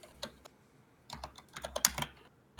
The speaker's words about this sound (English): Oh, you can probably hear my keyboard if I type too loud.